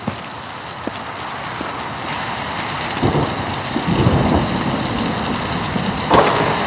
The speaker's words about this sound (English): it's raining!